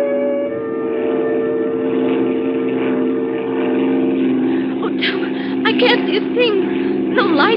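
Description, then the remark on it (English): A propeller airplane engine drones steadily and loudly throughout, a constant humming roar in flight, with voices briefly talking over it near the end. “I don't need lights to land.”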